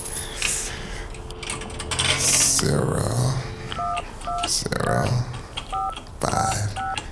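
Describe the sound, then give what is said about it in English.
A phone keypad being dialed, about six short, clear touch-tone beeps in a quick, slightly uneven sequence, set against noisy background sound with some muffled voice-like activity. “I gotta make this important phone call, right?”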